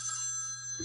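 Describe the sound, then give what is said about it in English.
A telephone rings with a bright, steady electronic trill, clear, filling the short moment with no one talking over it. It is the speaker's own phone. “Well, that's my phone ringing with the answer today.”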